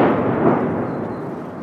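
A distant mortar explosion rolls out as a deep, broad rumble that fades slowly over a second or two, heard alone with no voices.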